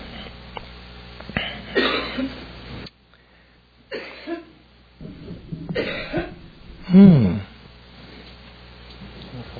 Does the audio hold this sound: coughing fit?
yes